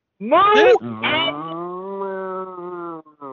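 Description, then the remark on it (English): A cow mooing sound effect: one long, loud moo, starting with a harsh bellowing burst before settling into a drawn-out, steady lowing tone that fades after about three seconds. “Oh my God, the moo-poo on this!”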